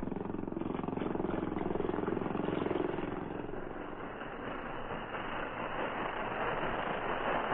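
A motorboat carrying two Mounties (police) drones steadily throughout, a loud, continuous engine rumble with a fast chugging pulse and no voices, easing slightly in the middle before holding steady again.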